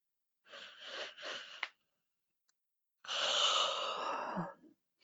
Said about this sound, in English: This yawning is the energy shifting.